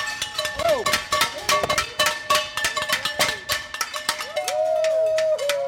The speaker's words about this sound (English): Soon enough at 7 o'clock, we head outside, where some very prompt neighbors have already gathered with pans and noisemakers they use every night.